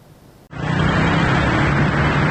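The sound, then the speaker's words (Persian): Dense Sunday street traffic in Tehran, Iran fades in abruptly after a brief quiet moment, then holds as a steady, loud wash of engine rumble and road noise, with no one speaking. “ترافیک روز یک شنبه خیابان‌های تهران”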